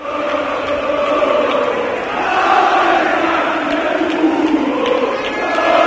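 A large crowd of football fans gathered outside Mestalla stadium, a steady, loud roar of many overlapping voices with sustained chanting and singing tones swelling throughout.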